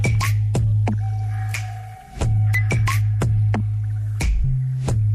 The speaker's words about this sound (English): What is going on? I can hear drips and bird sounds and critters all crawling around. What's all that come from? All sorts of things, man. I've got this field and river by my house, so sometimes I go down there and record some of the ambient noise.